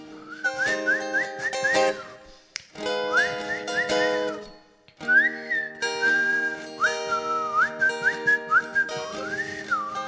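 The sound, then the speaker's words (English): A person whistles a wavering tune in three phrases separated by short pauses, with pitch gliding up and down. No one speaks. “I can't really whistle. That was it.”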